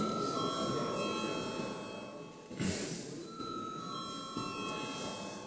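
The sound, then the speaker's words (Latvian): A steady electric bell rings continuously for several seconds in the Latvian parliament, the Saeima, calling members to a vote. Its bright metallic tone is sustained without pause over hushed, murmuring voices. “Lūdzu zvanu.”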